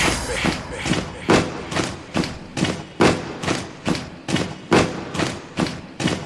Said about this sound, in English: Stomp with me.